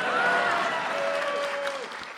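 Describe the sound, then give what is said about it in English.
An audience breaks into steady, sustained applause at the conclusion of a lecture, a dense wash of clapping throughout, with a faint voice-like tone gliding downward over the noise before it tapers slightly at the end. “So in conclusion, that's supposed to be an applause line.”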